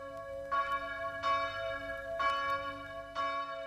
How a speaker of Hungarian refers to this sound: Közös imára hívnak naponta ötször Chicago harangjai.